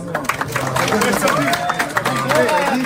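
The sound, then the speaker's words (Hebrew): A crowd claps steadily for a few seconds for a man being honored, a dense patter of hands mixed with overlapping voices and cheering chatter, fairly loud throughout. “תראו, אני רוצה כפיים פה ליהודי הזה.”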